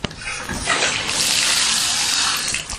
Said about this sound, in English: To the left of the sink is a shower. Opening the curtain.